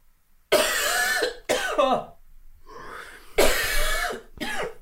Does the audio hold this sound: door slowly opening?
no